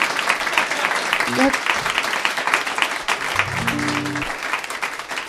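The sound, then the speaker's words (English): Dense, steady applause from an audience after a sad song by a solo performer fills the whole stretch, with a brief vocal whoop or hum rising out of the clapping partway through. “It's important to applaud quickly after the sad ones, because I'm up here by myself.”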